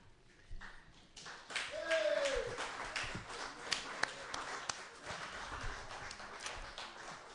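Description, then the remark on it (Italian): An audience applauds steadily for several seconds, a dense crackle of many hands clapping that swells early and then holds at an even level, with a brief vocal cheer rising out of it. “L'applauso deve intendersi come conclusione venuta o ci sono altre considerazioni?”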